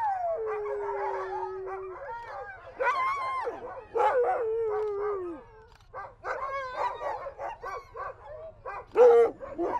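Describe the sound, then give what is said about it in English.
A pack of sled dogs at a sled dog race barks, yips and whines excitedly, with overlapping high-pitched whimpers and howl-like cries filling the air in a restless, continuous chorus. “Good dogs, good dogs.”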